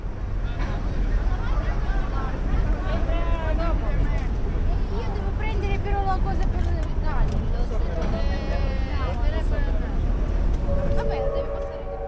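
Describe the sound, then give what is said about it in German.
Busy ferry harbor ambience: a ferry moored in the harbor, stern to the pier, unloading people, cars and trucks; a steady low engine rumble and wind buffeting, indistinct crowd chatter in the background, and a sustained tonal whine emerging near the end. “Da steht sie also, die Fähre, festgezurrt im Hafen, Heck zum Pier, entlädt die Menschen, die Autos, die Lastwagen.”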